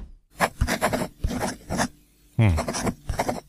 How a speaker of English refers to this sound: Yes, we heard that from your pen scratching.